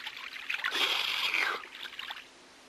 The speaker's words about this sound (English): And look at this here. A drinking fountain next to the loo.